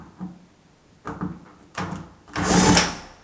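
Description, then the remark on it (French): A few short metallic taps and rattles, then a sudden harsh scraping screech as a screwdriver slips off a screw while unscrewing a door handle on an aluminium door, fairly loud, with no talking; the screw runs through the whole door and is nearly 8 cm long. “Oups, alors attention de ne pas riper comme je viens de faire, parce que du coup, ça marque, vu que c'est de l'alu.”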